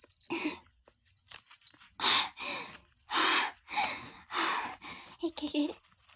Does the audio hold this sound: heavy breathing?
yes